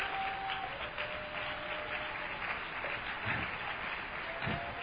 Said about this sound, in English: Somebody holler, I'm alive. Say, I'm alive. Clap your hands to Jesus then.